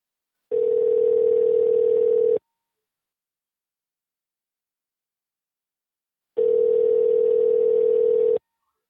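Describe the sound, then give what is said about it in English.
Telephone ringback tone while redialing a call: two steady, mid-pitched electronic buzzes about two seconds long each, separated by roughly four seconds of silence, with no voices present. “Alright, let me try calling again.”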